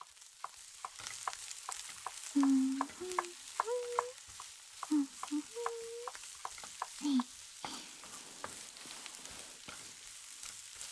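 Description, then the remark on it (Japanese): Onions sizzle steadily in a hot pot as they are stir-fried until caramel-coloured, a continuous crackling hiss broken by frequent sharp pops and scraping clicks as they are stirred, with a few brief low tones mixed in. “先輩はお鍋の方お願いしますね。玉ねぎが飴色になるまで炒めちゃってください。”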